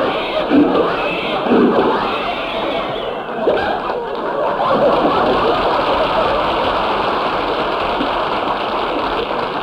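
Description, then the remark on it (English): A car motor sputters and coughs unevenly as someone tries to start the car, grinding and wheezing for several seconds without catching, a rough, loud, continuous rattle that never settles into a steady running hum. “Rochester, what's wrong with the motor?”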